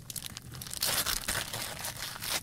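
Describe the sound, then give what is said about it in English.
Gift wrapping paper being torn and crinkled off a Christmas present, a classic rotary phone, in a quick, continuous burst of bright rustling and ripping, with no one speaking. “Shall I wait until Christmas Eve, or should I open it now?”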